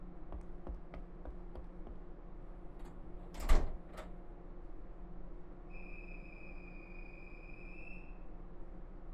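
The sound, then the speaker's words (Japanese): A vehicle's sliding door shuts with a single solid thud partway through as the vehicle prepares to depart, preceded by a few light clicks and followed by a steady high electronic tone over a low background hum. “閉まる扉にご注意ください。”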